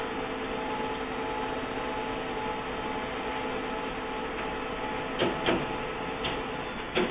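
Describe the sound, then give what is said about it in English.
A printer prints a test page sent from a computer, running steadily with a mechanical whir and hum, punctuated near the end by a few sharp clicks and clunks as the page feeds through. No one speaks. “Test page successfully sent to printer. The light is flashing. The printer comes on.”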